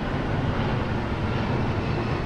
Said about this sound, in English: In the flight path of Newark Airport, it's so loud, freight trains fade into the background.